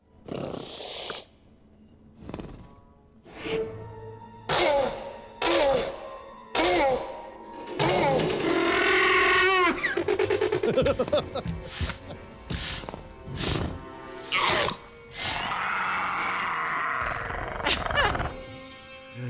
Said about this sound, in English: So how did they get the sound for Jurassic Park? Well, they recorded two tortoises having sex at Marine World, and they followed it up with a dolphin, a male dolphin in heat, and that got you this. The Velociraptors talking.